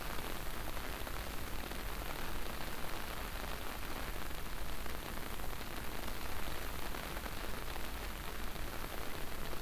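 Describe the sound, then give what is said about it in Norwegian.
Steady, even rain falls outside a large glass wall, hissing on a surface in a dense wash of tiny patters that never lets up. No voices, just the continuous soft roar of rainfall. “Skyene synker lavere når det regner, og vinden blåser dem over haugene.”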